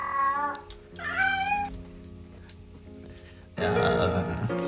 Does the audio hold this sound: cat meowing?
yes